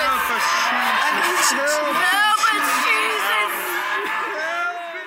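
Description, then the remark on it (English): A crowd of church members yells loudly all at once in fervent, overlapping blasting prayer, the way Word of Faith members pray, a dense, continuous roar of shouting without clear words that holds steady for several seconds before easing slightly. “When church members got violent, they would also perform blasting prayers.”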